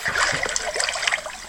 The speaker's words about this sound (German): Warum dieses plätschernde Geräusch?